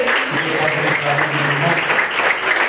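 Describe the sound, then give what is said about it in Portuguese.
A church audience breaks into steady, loud applause for Jesus during an evening service, a dense wash of clapping hands with some voices mixed in underneath. “Você pode aplaudir Jesus nessa noite?”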